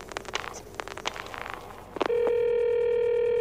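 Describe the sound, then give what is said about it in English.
A telephone being dialed to call the police department: bursts of quick mechanical clicks from a rotary dial, distinct, followed by a loud, steady electronic tone on the line. No one speaks. “Do you have to dial? Can't you ring them?”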